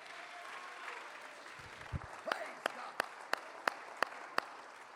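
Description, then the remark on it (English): A church audience claps in unison to magnify God: after a couple of seconds of crowd murmur, sharp handclaps fall into a steady, quick rhythm, roughly eight distinct claps ringing out over the background hum. “Clap your hands, lift your voice, and magnify him.”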